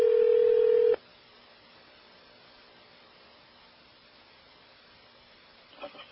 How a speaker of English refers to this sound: Oh, somebody is ringing the phone.